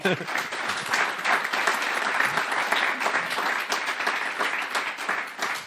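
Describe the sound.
Sustained applause from a live audience after a talk on vehicle-to-grid and batteries as grid buffers, a dense wash of many hands clapping at a steady, loud level for several seconds, with faint voices mixed in.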